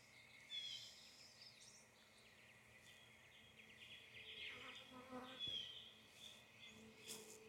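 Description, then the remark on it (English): A dense, steady drone of many honeybees buzzing in an open hive being inspected, a continuous low hum with occasional brighter passes of individual bees, and no one speaking. “Little cluster of bees there.”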